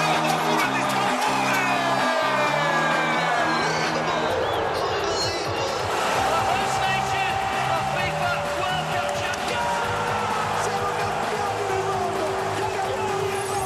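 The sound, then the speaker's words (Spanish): Excited announcers shout drawn-out goal calls in several languages, one after another, loud and sustained over a steady roar of cheering crowd noise. “El grito de gol en diferentes idiomas.”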